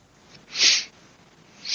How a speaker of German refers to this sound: Ich habe dich gerade noch schniefen hören, mehr nicht. Ist auch erkältet, ne?